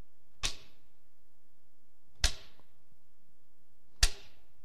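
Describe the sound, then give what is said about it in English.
A homemade whip, made without nails, glass or rocks, swishes sharply through the air three times, each stroke a quick, cutting lash with a short fading tail, evenly spaced about two seconds apart with no talking. “But they took a whip.”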